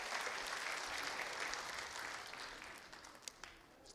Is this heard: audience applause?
yes